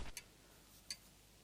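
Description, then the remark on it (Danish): A few soft, sharp ticks of a clock sound in otherwise deep quiet, spaced out with near silence between them and no voices. “Jeg kan høre uret tikke, så stille er der.”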